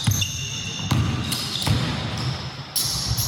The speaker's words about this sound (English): As AP reports, scientists have been studying the symphony of squeaking that occurs when rubber soles hit the hardwood floor. Inspired by a Boston Celtics game, one researcher wanted to know how exactly it happens.